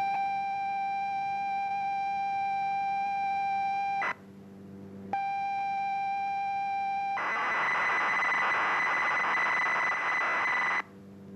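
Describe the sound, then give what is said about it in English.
Computer program data tones broadcast over the radio for listeners to record onto cassette and load into their computers: a steady, buzzy high pitched pilot tone, a brief pause, the tone again, then a loud, harsh, rapidly warbling burst of data screech for several seconds before cutting off. “Across the county, dozens of people had captured these mysterious tones onto a cassette, played that cassette into their computer, and then on their screen.”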